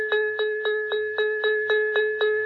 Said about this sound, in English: Just at that moment, quite close at hand, the dinner gong rang out.